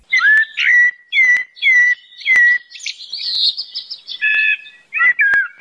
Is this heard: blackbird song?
yes